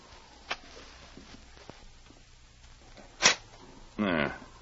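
dog growling

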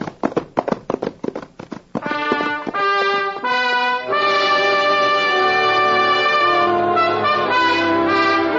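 horse hooves galloping

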